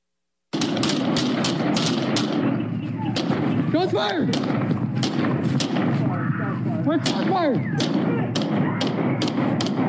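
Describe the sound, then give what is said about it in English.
Heavy gunfire in a crossfire: loud, sharp shots crack in rapid, overlapping bursts over a constant low rumble, with brief shouting voices breaking through between volleys. “Crossfire!”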